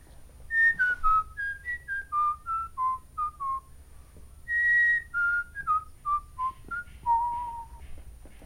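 Someone whistles a melody alone, clear, in two descending phrases of short pure notes with a brief pause between them, over a faint low background hum.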